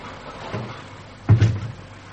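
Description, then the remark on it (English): A door swings shut with a dull, low thud and a quick second knock as it settles, after a soft shuffle, set against a faint steady hiss. “Close the door”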